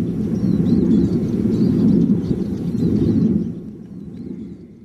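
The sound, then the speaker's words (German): Steady wind rushing with a deep, low whooshing roar from wind turbines in Saint-Bré, easing off toward the end, while faint bird chirps sound high above. “Windrauschen und Windräder in Saint-Bré, der Beitrag von Wirtschaftsredaktorin Priscilla Imboden.”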